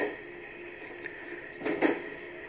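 Steady rumbling hum of the interior of a moving JR West train in Japan bound for Okayama, with a constant drone and a couple of brief louder clattering swells near the end, no voices present.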